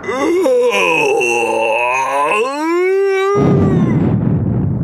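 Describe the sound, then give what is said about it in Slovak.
A voice imitates the huge, drawn-out yawn of a wild mountain man waking in spring, a loud moaning tone that wavers and slides upward for about three seconds, followed by a burst of rough, rumbling noise like thunder. “Jeho mohutné chrápanie spúšťalo do dolín lavíny a keď sa z jary prebudil a zívol...”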